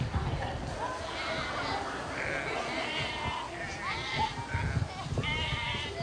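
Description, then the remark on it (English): Several sheep bleat in overlapping, wavering calls, repeating every second or so as children try to get close to them, over a steady rustle and low thumping of movement. “As a matter of fact, I want to show you a video of what happens when they tried to get close to the sheep.”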